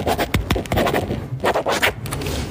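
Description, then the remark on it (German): A pen scratches quickly across paper in energetic, uneven strokes, with short sharp bursts of scraping over a low background hum. “Ihr hört mich jetzt unterschreiben.”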